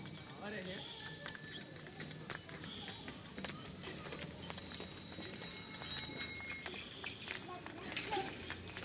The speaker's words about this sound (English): Bullock carts rumble past. The driver's often fast asleep. Thank God the bullock knows the way home.